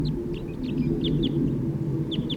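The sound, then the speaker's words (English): A male bird chitters on his way down in short, high, quick notes, a few scattered bursts over a steady low rumble, with no one speaking. “Another male is chittering on his way down and he has caught an orange one, bright orange.”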